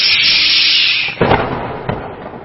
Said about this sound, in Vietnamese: Nhưng khi tội nhân vừa được tháo gông bước ra khỏi công đường, thì bỗng dưng một tiếng sét nổ ran giữa trời quang mây tạnh.